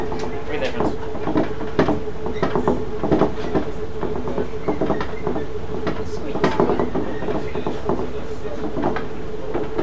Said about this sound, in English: Funny noise. Yeah, so the old trains, the doors rattle somewhat. Oh, it's the door? I was trying to look at what it was. Yeah, it's the door rattling in its frame.